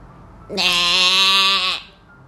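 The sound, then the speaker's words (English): A person's voice imitates a horse neighing: one loud, drawn-out, bright whinny lasting just over a second, heard alone with no talk around it. “And … neighed like a horse.”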